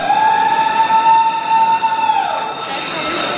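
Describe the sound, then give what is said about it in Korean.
A subway train, the first to enter the reopened WTC Cortlandt station in New York on September 8, rolls in with a loud, steady high-pitched whine and humming rumble that drops in pitch as it slows, followed by a hiss of air brakes. “9.11 테러 17주년을 며칠 앞둔 지난 9월 8일 WTC 코틀랜드 역으로 첫 번째 열차가 들어옵니다.”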